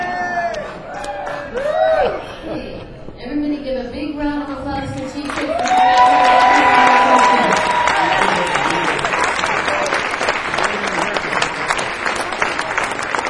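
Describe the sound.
A crowd applauds and cheers, with scattered whoops and shouting voices at first, then the clapping swells into a loud, steady roar that holds to the end.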